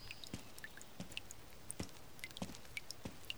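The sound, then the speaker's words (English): Water drips steadily and irregularly from a leaking roof while rain comes down outside, a dozen or so small plinks and taps, quiet, with a faint background hiss and no voices. “A sort of dripping noise?”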